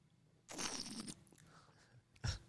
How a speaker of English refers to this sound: So today I bring the water from the great mountains of the Swiss, and it's called Evian. Oh. Uh-huh. Not a sponsor. That is me twisting the cap off. This is me taking a sip.